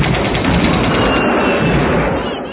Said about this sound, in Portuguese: imediatamente os policiais militares, os rodoviários e o BOP, Batalhão de Operações Especiais, foram para o local. Houve intensa troca de tiros.